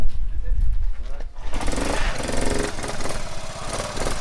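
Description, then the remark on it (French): A four-stroke engine, a Pony Ninja with a 19 carburettor on a 51, runs, starting as a low rumble and then revving into a louder, buzzing, pulsing drone that holds steady for several seconds. “Ça, c'est un moteur 4 temps, hein.”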